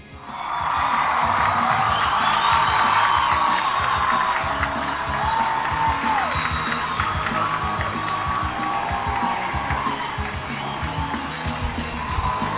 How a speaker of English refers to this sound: Yeah, baby. Yes. Crowd is on fire today. Look at this crowd. Even louder.